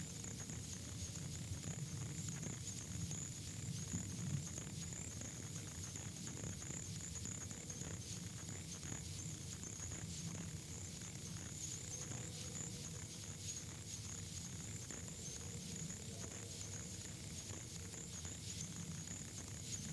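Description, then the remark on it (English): A frog's high-pitched tinkling call repeats in rapid, steady pulses throughout, forming a continuous shimmering trill over a low outdoor hum, with no voices present; the frog calls from shallow, flooded, grassy areas of the peninsula west to Choctahatchee Bay. “Its call is a high-pitched tinkling sound, which many people are unable to hear.”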